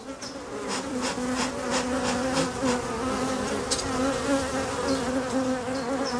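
A steady hum of many honeybees buzzing around a hive, with a continuous droning tone and occasional brighter flickers as individual bees pass. No voices are present.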